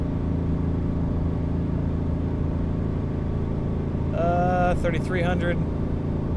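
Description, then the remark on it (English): A car engine drones at steady, high revs of about 3,500 rpm while driving on the highway up a little hill, a thick low rumble with layered harmonics that holds throughout, briefly joined midway by a higher wavering tone. “I can't imagine revving this on the highway all the time.”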